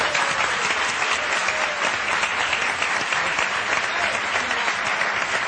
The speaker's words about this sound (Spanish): Y aplauso para ello, ¿no? Es común ya para todos los cuatro.